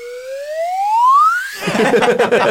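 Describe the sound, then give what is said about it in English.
A swanee whistle slides steadily upward in pitch for about a second and a half, a smooth rising tone, then cuts off into a loud, noisy burst of laughter and voices. “And then a swally whistle.”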